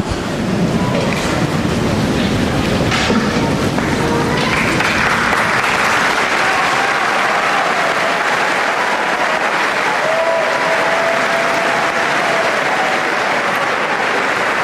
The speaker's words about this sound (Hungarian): Ismét tapsal köszönik meg a hatodik pálteremben jelenlevő zarándokok Ferenc pápa áldását és az ő tanítását.